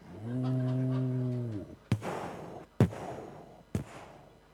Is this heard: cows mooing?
yes